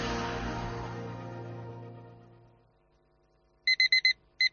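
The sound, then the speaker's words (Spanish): A car's front-door-open warning chime: a bright, high electronic beep repeated four times quickly, a brief gap, then two more, following a low rumbling tone that fades into silence. “Puerta delantera abierta.”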